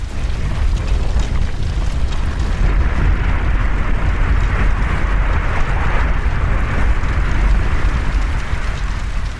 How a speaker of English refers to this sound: The thunder of the water hitting the land sounds like a bomb going off.